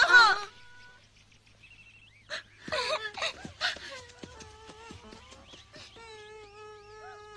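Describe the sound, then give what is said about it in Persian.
A small kitten cries and meows, with a string of high, plaintive calls, some short and some stretched into long wavering wails. No one speaks. “سلام چی شده؟ گربه کوچولو”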